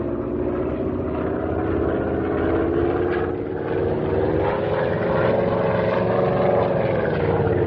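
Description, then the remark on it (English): A low-flying propeller airplane roars in a steady, loud engine drone, its pitch swelling and rising as it dives in for a buzz. No voices are heard. “This ought to be far enough away to start in for a buzz.”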